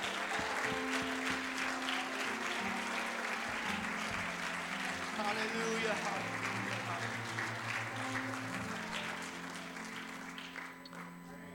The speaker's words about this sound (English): Come on, if you're thankful for what God is about to do in this service, one more time, would you clap your hands?